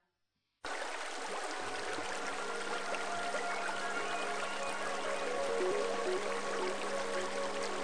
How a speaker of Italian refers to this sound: Pioggia che cadi sulla terra riarsa e allegra picchietti su un tappeto di foglie.